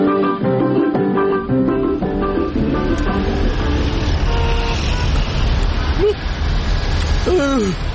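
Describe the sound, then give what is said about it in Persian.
A loud, rattling old car engine runs steadily, with clattering noise, whining tones and a couple of squeaky, swooping sounds near the end. The car is Mashti Mamdali's, with neither horn nor seats. “ماشین مشتی ممدلی ارزون و بی‌معطلی، ماشین مشتی ممدلی نه بوق داره نه صندلی.”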